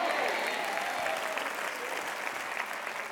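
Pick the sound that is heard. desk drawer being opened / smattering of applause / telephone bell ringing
smattering of applause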